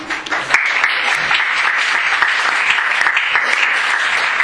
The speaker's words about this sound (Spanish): Un fuerte aplauso.